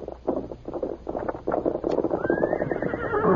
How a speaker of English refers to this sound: Horse coming. Yeah, that's probably Tonto. I'll open the door and see.